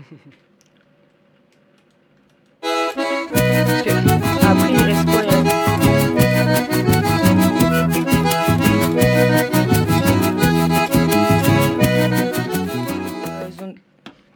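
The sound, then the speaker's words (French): A short, loud musical jingle, played as a brief break between segments, with a quick, steady percussive beat kicks in after a brief quiet stretch, plays for about eleven seconds without voices, then cuts off abruptly. “Et vous voulez une petite virgule pour prendre une respiration?”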